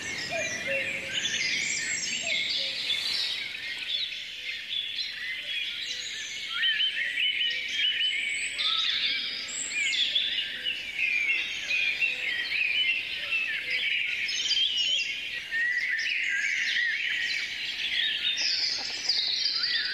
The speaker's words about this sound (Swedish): I Nosten utanför Uppsala så har det också vaknat till liv, och där är det rödhake och trastar som dominerar.